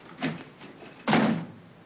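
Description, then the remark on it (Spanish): A door is pushed shut with a solid thud, preceded by a softer knock or shuffle as it swings, with no voices. “Cierra la puerta.”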